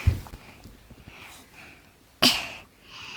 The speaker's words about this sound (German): Du musst Hallo sagen. Du sollst nicht husten, du sollst Hallo sagen.